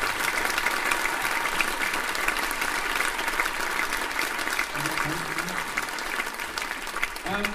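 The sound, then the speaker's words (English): Sustained, steady applause from a crowd at a school music event, a round of applause for the day's sound technician, dense clapping filling the whole stretch at an even loudness, with a few faint voices rising briefly near the end. “A round of applause for”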